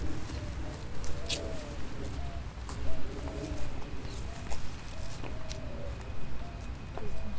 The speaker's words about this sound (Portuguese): O canto dos pássaros localiza a gente, né? Você se situa, assim, de repente você percebe que você está num determinado lugar e que a direita, a esquerda, a frente, do lado, lá atrás, né?